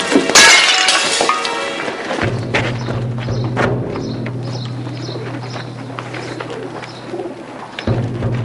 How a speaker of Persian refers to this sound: این چه صدایی بود؟ صدای گربه هاست. گربه؟ تو صدای میوی گربه شنیدی؟ صدای شکستن آبگینه بود. هرچی که هست از داخل سرداب است.